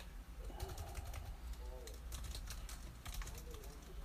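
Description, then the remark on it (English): Rapid, irregular clicking of keys on a computer keyboard, steady, with short bursts of clacks and a faint low murmur underneath. “I'm distracted by your typing.”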